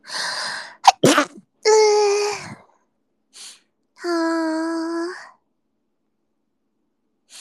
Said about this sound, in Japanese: くしゃみしそう。